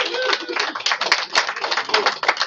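A crowd applauds steadily as a medal is presented, many hands clapping in a dense, continuous patter that holds an even loudness throughout, with no voices standing out above it.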